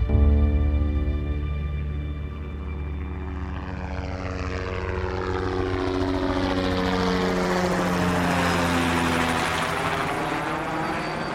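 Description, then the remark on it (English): A Jet Ranger helicopter flies past, its steady rotor thump and turbine whine loud and continuous, with a shifting, swooshing pitch as it moves overhead. No one speaks. “We jumped in another Jet Ranger, flew it on down.”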